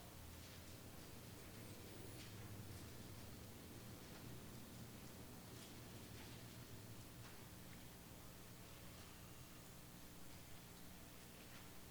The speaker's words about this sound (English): I love that sound. Pages turning.